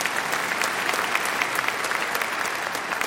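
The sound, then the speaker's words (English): A crowd breaks into steady, sustained applause for God, a dense wash of many hands clapping at an even, fairly loud level for the full few seconds, with no voices standing out. “Now, yeah, you can clap for God.”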